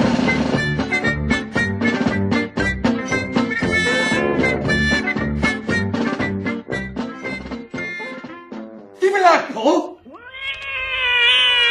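Busy, rhythmic vocal sound gives way near the end to loud, drawn-out wavering cat yowls and meows, a short caterwauling outburst that rises and bends in pitch.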